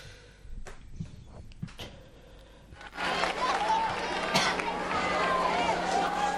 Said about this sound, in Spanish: ¿Cuánto aplauso? ¡Caramba!